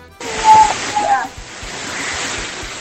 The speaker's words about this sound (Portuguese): tá um toro d'água. Tá um toro aí. Um toro d'água bonito, que é Deus não, mandou.